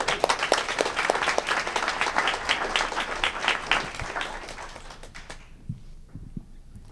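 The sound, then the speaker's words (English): An audience at a storytelling event breaks into a warm round of applause for the next storyteller, dense overlapping claps filling the first five seconds before thinning out into a few scattered claps and fading to near silence. “Our next storyteller is my co-host, and I just, you guys should just please give a warm round of applause”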